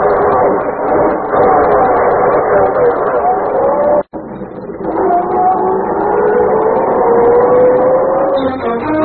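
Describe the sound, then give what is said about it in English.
A loud car engine revs hard, cuts out for an instant, then roars again with its pitch climbing steadily as the car accelerates and drives out of a garage. “When I get out of the garage, you duck down. If they try to stop us, I'll run them down.”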